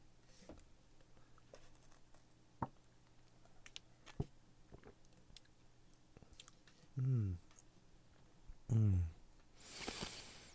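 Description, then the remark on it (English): Someone sips a drink: scattered small clicks and mouth sounds, then two short, throaty gulping swallows a couple of seconds apart, followed by a brief breathy exhale, all fairly quiet. “May I have a sip of that?”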